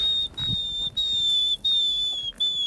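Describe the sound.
A person whistles an imitation of a bird call: four long, steady, high-pitched notes, each sliding slightly downward, separated by brief pauses. The whistling is fairly loud, with no talking.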